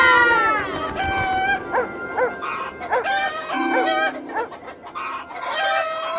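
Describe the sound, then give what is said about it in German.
A flock of chickens on a chicken farm clucks and squawks, with a rooster crowing loudly at the start and busy overlapping hen calls throughout, no talking. “Dort drüben ist eine Hühnerfarm.”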